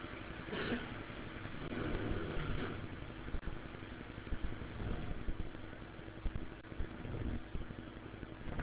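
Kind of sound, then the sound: nature, heavy rain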